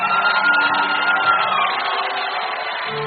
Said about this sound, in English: Let me tell you why we are clapping. The Lord told me, He said, son, those who know how to clap in the spirit in praise to my name, I will make people clap for them.